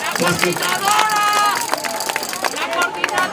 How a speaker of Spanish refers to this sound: Bien. Aplauso fuerte para todos.